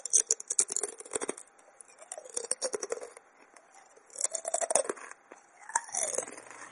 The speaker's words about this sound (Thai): เปรียบเทียบกับเสียงเคี้ยวมันทอดค่ะ